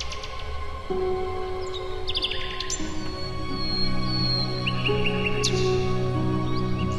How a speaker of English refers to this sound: So the score to this piece actually called for a phonograph recording of a nightingale, right? Yeah, that was the first time that was ever done, as I understand it, with an orchestra.